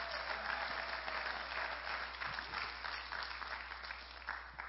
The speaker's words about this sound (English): Let's give God that glory. Let's clap for him because he's the one.